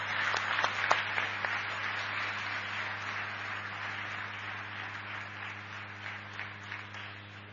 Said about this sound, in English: Brothers and sisters, please give a warm round of applause for the chairman of the Prashanti Council